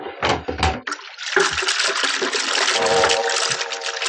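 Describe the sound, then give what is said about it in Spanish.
A couple of heavy thumps give way to a big splash as a heavy trunk, pushed from a jetty, hits the deep, calm water of the Tiber River, followed by loud, steady churning and gurgling as it sinks; no voices. “El baúl, arrastrado por su enorme peso, cae con un siniestro chapoteo y se hunde de inmediato en las aguas.”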